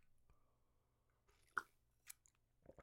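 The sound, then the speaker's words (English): A quiet sip of a dry cocktail from a tiny rocks glass, followed by a few sharp crunchy chews of sugar grains from its heavily sugared rim, over a low steady background hum with no talking. “All right, let's try this stupid drink.”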